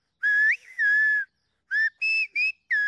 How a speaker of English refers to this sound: It's the whistling language from the Canary Islands that shepherds speak to each other across mountains.